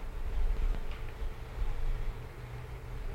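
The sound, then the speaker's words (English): Steady rain falls in a continuous, even hiss with a low rumble underneath, holding at a moderate level throughout with no voices or distinct drops standing out. “The rain has started.”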